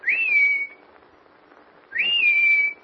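Two loud, sharp human whistles, each rising quickly then holding a steady high note for about half a second, separated by a pause, as someone whistles outdoors in the snow near cabins to call a girl who knows the whistle.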